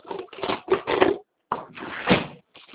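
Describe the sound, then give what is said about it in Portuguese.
Paper rustles in several irregular, scratchy bursts, with a short pause partway through, as someone flips and shuffles sheets while searching for a notebook and a sheet of paper. “Deixa eu ver se tem uma folha.”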